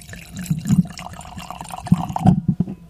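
Domaine du Castel wine from Israel glugs into a glass in uneven gurgling bursts, with a splashing pulse near the start and a fuller run of pouring toward the end, no voices.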